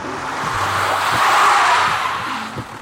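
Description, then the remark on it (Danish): A car brakes hard with a harsh, rising tire screech that swells to a peak midway and fades, over a low engine rumble, loud with no voices. “Morgentrafikken er et helvede. Bilen foran mig chatbremser uden grund hele tiden.”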